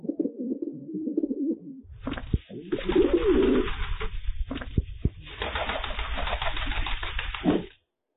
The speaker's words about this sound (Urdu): کبوتر کو دیکھ کر کیا اندازہ ہو رہا ہے؟ یقیناً سمجھ گئے ہوں گے کہ آج ٹاپک جو ہے وہ کبوتر ہے